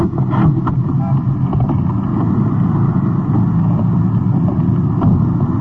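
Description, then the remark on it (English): A police detective car's engine rumbles with a low, steady drone and some wind buffeting, as the vehicle swings in toward the curb by a liquor store. No clear voices come through. “Swinging into the curb, the liquor store on the right, held up a few moments ago.”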